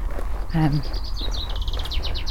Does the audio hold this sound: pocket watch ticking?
no